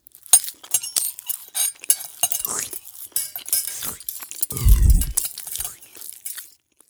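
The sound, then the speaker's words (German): Dishes and glasses clink and clatter irregularly through a meal, as a donkey, a dog, a cat and a rooster eat and drink their fill at a table in a fairy-tale scene, with bright chiming taps, scraping cutlery and a brief low thump near the end, with no voices. “Nachdem die Räuber geflohen waren, setzten sich der Esel, der Hund, der Kater und der Hahn zufrieden an den Tisch und aßen und tranken sich satt.”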